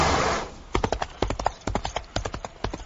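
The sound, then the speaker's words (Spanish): Horse hooves clip-clop in a quick, steady rhythm of sharp knocks, following a brief wash of noise at the start, with no voices, in a Spanish radio advert for the Volkswagen Polo. “No dejes que un caballo te convenza. Un caballo mola.”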